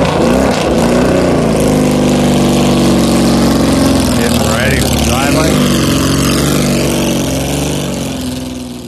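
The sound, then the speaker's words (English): A Porsche 935 race car engine idles with a deep, lumpy rumble and steady harmonics, briefly blipping mid-clip, while people talk faintly over it. “getting ready to take the 935 down the street.”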